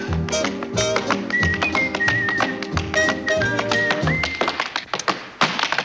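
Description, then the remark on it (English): Quick, crisp tap-dance clicks of heels and toes as Jerry twirls into a carefree tap dance, pattering in a lively, irregular rhythm over a bouncy melody, with a few heavier stomps near the end. “Henri leans easily on a lamppost as Jerry twirls into a carefree tap dance.”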